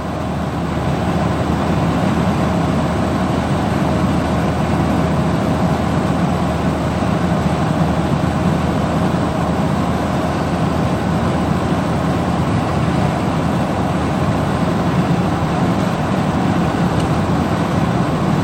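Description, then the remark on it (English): A car drives through deep puddles, a continuous loud rush of tyre noise and water spray that holds steady for the whole stretch, with no voices. “Bit of a rush through a few little bit too deep puddles. Feel the car going, you know.”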